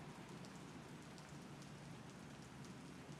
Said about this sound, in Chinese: 医生啊，有很吵吗？不都说下雨天最适合睡觉了吗？这种天气睡觉是很舒服的。